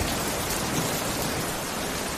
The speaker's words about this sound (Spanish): Sonido del agua. La lluvia nos ha dado una tregua en las últimas horas, pero ojo porque lo peor viene para las jornadas de mañana miércoles y también el jueves.